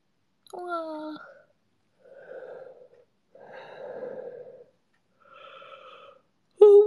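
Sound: yawn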